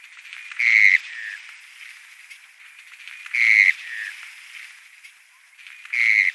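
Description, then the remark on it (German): A wader, a shorebird of the Limicolae group with orange breeding plumage and a pale eyebrow stripe, calls three times at regular intervals, each a loud, high, slightly burry note with a softer, lower trailing note, over a faint hissy background. “Sie gehören zu den Limicolen.”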